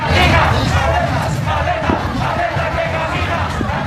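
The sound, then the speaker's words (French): A large crowd of thousands of street protesters in Guatemala shouts and chants slogans loudly together, demanding the resignation of President Giammattei and of Maria Porras; a dense, continuous roar of many voices with rhythmic surges of yelling throughout. “Ces slogans, à présent, scandaient bien fort dans les rues du Guatemala.”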